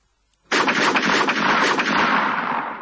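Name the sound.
pistol gunshots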